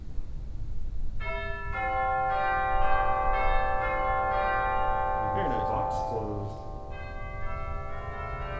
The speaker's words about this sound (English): And you also have chimes that are available. They're played from the choir box